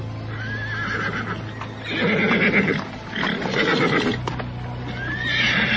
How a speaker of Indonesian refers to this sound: Dan di saat itulah, tidak jauh dari padepokan, dua ekor kuda berderap dan kemudian berhenti.